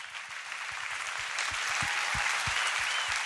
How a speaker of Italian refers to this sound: Gli applausi del pubblico dotato di cuffie per ascoltare lo spettacolo multimediale andato in scena il 10 dicembre scorso al Muse, al Museo delle Scienze di Trento, un concerto per tromba, trombone ed elettronica con Paolo Fresu e Gianluca Petrella